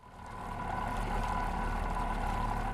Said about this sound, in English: The sloshing sound of the wake against the boat carrying Governor Rick Scott sounds no different than usual Monday morning. But what is unusual is the color. A bright neon green.